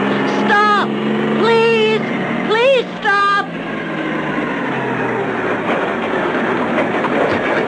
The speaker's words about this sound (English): The thin little boy's arms start to wave wildly as a truck approaches.